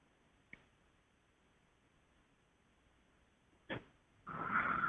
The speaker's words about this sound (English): are you sneezing? Yes, I am. Let's see. Now, is that you sneezing or an angel sneezing through you? Oh, that's me.